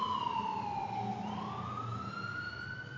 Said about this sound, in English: Thanks, fire engine.